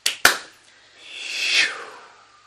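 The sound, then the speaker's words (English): Two sharp, bright claps ring out, followed by a broader wash of many hands clapping together after a count of three to seal the work at the end of a group session, swelling to a peak and then fading away. No one speaks. “After the count of three, we're going to clap to seal the work.”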